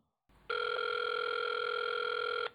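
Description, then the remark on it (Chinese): A single steady ringback tone heard down a phone line on an outgoing call by a Radio Free Asia reporter trying to reach a director of the Hong Kong firm Wai Pao (威炮香港), one continuous electronic buzz lasting about two seconds, loud, with no voices. “尝试接触威炮香港董事黎晓峰，一名讲普通话的女子得悉是记者致电之后，回答指黎晓峰不方便听电话。”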